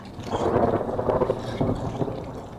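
Distant thunder of a storm at Alamo Campground rolls on throughout as a steady, low rumbling roar, with a faint wash of rain or wind noise and no voices.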